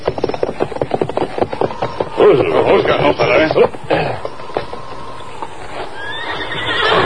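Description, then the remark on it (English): A horse whinnies loudly up close while hooves clop steadily on hard ground, with a voice speaking briefly over the sounds. “Horse take shelter by line shed just ahead.”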